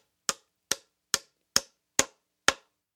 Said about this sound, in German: Einige Nägel haben sich beim Stall gelockert. Hansi hämmert laut in seiner Werkstatt.